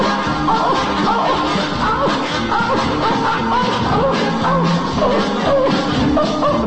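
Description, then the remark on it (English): A coon hound bays on and on in loud, drawn-out, wavering howls that rise and fall in pitch, layered over a busy, noisy background with no pauses. “You know that hound is singing that song, boy.”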